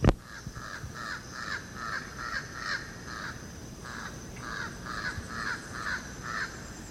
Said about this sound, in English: That's Jabbering Crow. Now it's flying across the open space. It's only one of them.